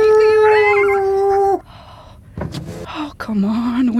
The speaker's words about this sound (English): Watch out! There's a coyote!